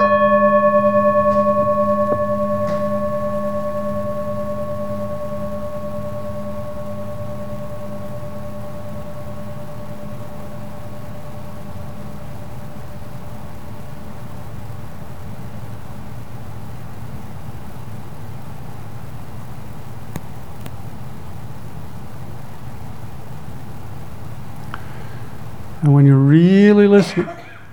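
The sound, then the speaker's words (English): A meditation bell rings once, its rich, sustained tone and shimmering overtones slowly fading over several seconds into near silence before a voice begins speaking at the very end. “Listen to the sound of the bell and follow it into silence.”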